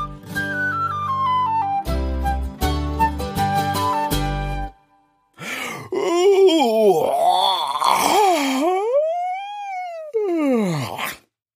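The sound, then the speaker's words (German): Pirate captain Fusel aboard the Rambazamba gives a loud, drawn-out yawning groan that swoops up and down in pitch for several seconds, following a short burst of playful music with thumping hits as he drums his fists on his fat belly. No speech. “Piratenkapitän Fusel gähnt und trommelt sich mit den Fäusten auf seinen dicken Wanst.”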